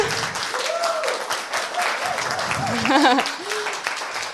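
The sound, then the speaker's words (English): Sustained applause from a group during a guided exercise, clapping for the beauty of the people in front of them: dense and steady clapping throughout, with cheerful voices and whoops rising over it, peaking near the end. “Let it turn into a full round of applause for their beauty.”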